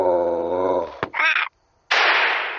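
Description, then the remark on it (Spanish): A dog growls in a low, steady rumble, then lets out a sharp bark, falls briefly silent, and ends with a loud, harsh snarl. “¡Eh! ¡Fuera de ahí! ¡Vamos, perro!”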